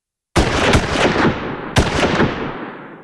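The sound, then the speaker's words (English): Gunshots hit a metal bin: a sharp burst of several quick cracks, a pause, then a second volley, each blast loud and trailing off in a long rattling ring. No voices. “Suddenly, somebody started to shoot at the bin.”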